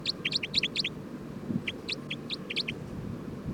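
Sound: bird calls being recorded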